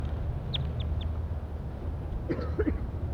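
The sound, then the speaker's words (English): A wild bird near a net, back in a pine tree, calls: three quick, high chirps in a row, then a short, rougher burst of calling, all over a steady low rumble of background noise. “Pointed at the wild bird again, back in the pine tree.”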